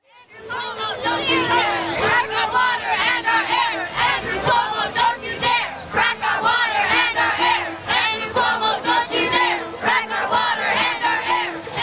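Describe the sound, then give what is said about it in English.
A crowd of over 200 anti-fracking activists shouts and cheers loudly and continuously at a rally outside the Sheraton Hotel in Midtown New York, demanding that the governor ban fracking. Voices overlap in a dense roar, with steady held horn-like notes from a brass band sounding underneath throughout. “Occupying a quarter of a New York Midtown block today, over 200 anti-fracking activists with a brass band rallied outside the Sheraton Hotel, hoping New York's governor would hear their plea to ban fracking in the state.”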